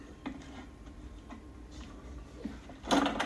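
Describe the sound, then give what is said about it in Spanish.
A few soft taps and clicks, then a sharp, fairly loud thud near the end, like a door being pushed shut, as a man closes an apartment door behind two people. No one speaks. “Él cierra la puerta tras ellos y se dirige hacia un sofá.”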